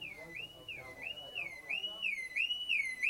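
A car alarm, set off by a brick thrown into the car, blares with a shrill electronic tone that swoops up and down in a fast, steady repeating cycle, loud and continuous throughout, with faint background noise underneath.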